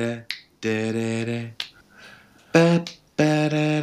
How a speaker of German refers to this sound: Weißt du eigentlich, dass ich hinter meinem Rücken schnippe? Ich schnippe überhaupt nicht vor Mikrofon. Okay, pass auf. Ich schlage auf meine Jeans und schnippe hinter meinem Rücken.